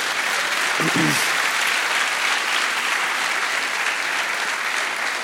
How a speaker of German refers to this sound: ich finde, das ist auch ein riesen Applaus wert.